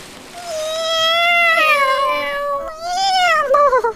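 A wet, cold cat yowls unhappily in long, drawn-out meows, one stretched cry followed by a couple of shorter wavering ones, loud with no talking.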